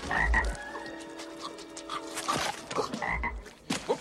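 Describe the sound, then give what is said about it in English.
A frog croaks loudly, with deep throaty bursts and a harmonic rasp, repeating a few times over a few seconds with no talking. “That is what I call a frog.”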